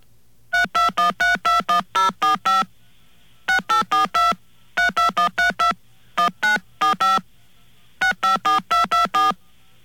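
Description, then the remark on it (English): Touch-tone phone keypad beeps play a simple tune meant to be "Way Down Upon the Suwannee River". Short dual-pitched tones are tapped in quick rhythmic bursts of about six to eight notes, separated by brief pauses, with a faint hum underneath. “Well, it's supposed to be way down upon the Suwannee River.”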